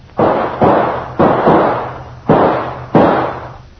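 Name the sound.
gunshot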